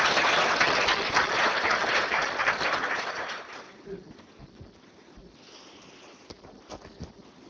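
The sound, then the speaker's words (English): A crowd at a GNOME talk on PulseAudio applauds to introduce the speaker, in a dense, steady wash of clapping for about three seconds, then it fades quickly to a few scattered, sharp claps and quiet shuffling. “Applause!”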